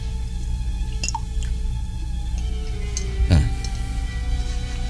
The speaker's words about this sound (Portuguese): Agora despeje água do jarro nas minhas mãos.